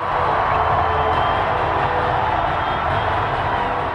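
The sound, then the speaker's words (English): A large crowd of Cleveland home fans cheers in Quicken Loans Arena in Cleveland as the basketball series returns there after Game 2, a loud, continuous roar, a dense wash of many voices that holds steady for the full four seconds without a clear break or single standout voice. “Now, Renee, there is angst built into this while cheering, part of the us against the world vibe in Quicken Loans Arena.”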